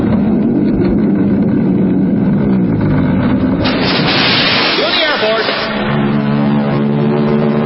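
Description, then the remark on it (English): Royal Canadian Air Force planes roar overhead towing a 10-ton maraschino cherry, in a loud, steady engine drone that swells into a brighter rushing whoosh midway, with a few whining pitch sweeps before the rumble settles again. “Then the Royal Canadian Air Force will fly overhead towing a 10-ton maraschino cherry, which will be dropped into the whipped cream for the cheering of 25,000 extras.”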